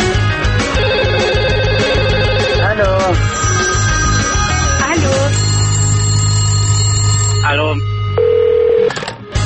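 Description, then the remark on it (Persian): A telephone rings repeatedly and loudly over a busy, tonal background, then a single steady beep sounds near the end as a program's answering machine for listener calls gets ready to record. “بله، همکنون به چند تماس شما با پیغامگیر برنامه گوش داده”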